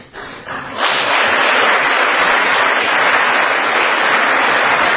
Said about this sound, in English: Yeah, but notice that she thinks before clapping.